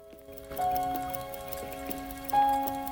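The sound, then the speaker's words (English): Soft ticks of a carriage clock and pocket watches in an open-fronted display case click at a loose, uneven pace beneath a steady, humming tonal drone, with a brighter chime-like tone swelling briefly near the end. No voices. “On an illuminated cabinet sits a carriage clock and his selection of pocket watches in their open-fronted display case.”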